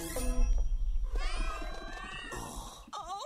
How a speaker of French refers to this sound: Miaou.